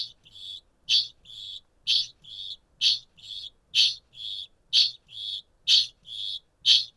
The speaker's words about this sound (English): Brody mentioned that kakapo make a noise known as chinging, as well as booming. This is what that sounds like.